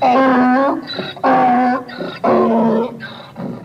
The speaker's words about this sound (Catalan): Per si teniu dubtes existencials sobre la onomatopeia musical de l'asa que s'ha tret de la màniga Félix Mendelssohn, comparem brams. Aquest és el bram de l'asa en versió original.